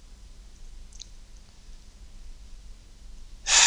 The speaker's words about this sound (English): Just listen, if you listen carefully, Min, right now, you can hear one of the cats scraping in the litter. I think that's what they think of your pun right now. One of the cats is taking a dump right now